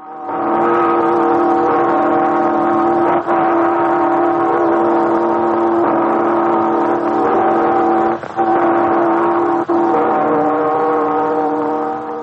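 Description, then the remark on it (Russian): The belfry bells of the Yuriev Monastery near Novgorod ring in a dense, continuous wash of overlapping metallic tones. They are heard through the heavy hiss and muffled, worn sound of a phonograph cylinder recording made in 1926. “Звучат колокола звонницы Юрьевского монастыря под Новгородом.”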